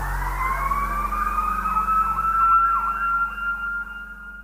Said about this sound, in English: Minutes later, she heard the sound of sirens outside.